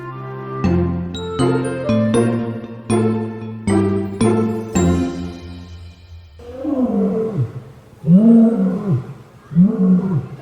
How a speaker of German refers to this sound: Unverkennbar zu hören, wo wir jetzt in Hellabrunn hingegangen sind. Wir sind natürlich bei den Löwen